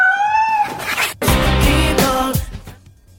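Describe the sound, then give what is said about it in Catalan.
A cat gives a rising, drawn-out meow, then loud, harsh yowling cries follow, with no talking. “s'identifica amb els gats de la cavalcada de Reis”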